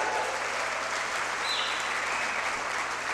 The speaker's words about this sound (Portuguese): Alguém mais quer dar um salva de palmas para Deus aí? Vamos lá.